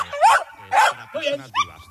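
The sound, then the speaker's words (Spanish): A search dog barks four times in quick succession during a training session, loud, with sharp, ringing yelps spaced roughly half a second apart. “Así suena un entrenamiento con perros.”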